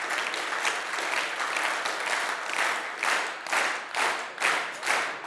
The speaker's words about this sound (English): when I say synchronize, just start clapping together without any help from anyone but beside yourself. So start with a round of applause. Okay, synchronize.